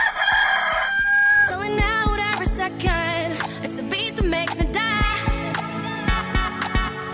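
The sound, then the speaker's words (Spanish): A single loud rooster crow rings out at the start, quickly followed by bright, bouncy music with a steady beat carrying on to the end. “Canto cuando amanece y canto y vuelvo a cantar cuando el día desaparece. El gallo.”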